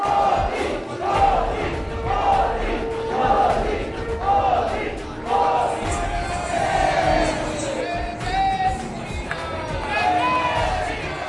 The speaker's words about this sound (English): Before we move ahead, upon his arrival in Argentina, Prime Minister Narendra Modi was accorded a ceremonial welcome and also received applause from the members of Indian community.